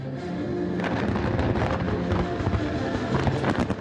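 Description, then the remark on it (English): Fireworks celebrating the fifth anniversary of the Shanghai Cooperation Organization burst continuously, a dense barrage of overlapping bangs and crackles with low rumbling booms, loud and steady throughout with no voices. “As the organization celebrates its fifth birthday with fireworks, some are wondering what its mission is.”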